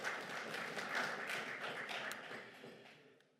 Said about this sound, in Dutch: Kan ik deze per acclamatie afdoen? Ik zie staande ovatie, groot applaus.